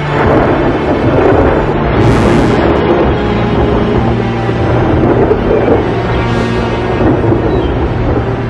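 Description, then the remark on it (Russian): Loud, continuous thunderstorm rumble, deep rolling thunder filling the whole stretch, with two brief hissing swells of wind or rain near the start and end. No voices. “Один за другим распускались паруса, все выше вздымались волны, собирались тучи, вдали засверкали молнии.”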